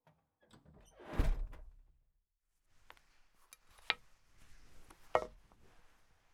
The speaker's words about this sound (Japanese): 扉のロックは今解除したので、中へどうぞ。